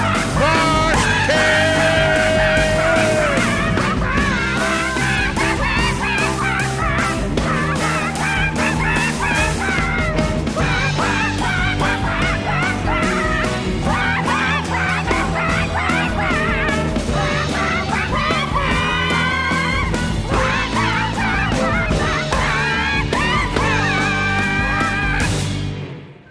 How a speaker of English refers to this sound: Oh my gosh, it's the swearing parrots! Hey, they're awesome!